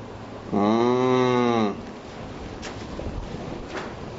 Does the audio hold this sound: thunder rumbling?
no